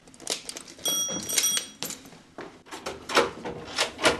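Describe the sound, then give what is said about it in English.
A heavy door to a rare-book vault is unlocked with keys and swung open: a run of metallic clicks and clanks, a brief high ringing scrape, then dull thuds and rattles of the mechanism, moderately loud. “And you have the keys to that vault, I do. Right? I have them right here in my hand.”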